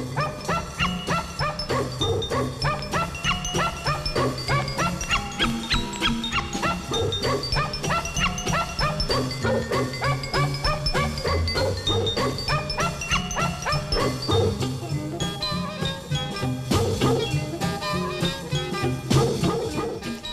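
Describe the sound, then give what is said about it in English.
Dogs bark and yip continuously in a lively, overlapping chorus, with some whimpering mixed in, loud for about twenty seconds with no talking. “And with the barking dogs, it is time for our Doggone Report.”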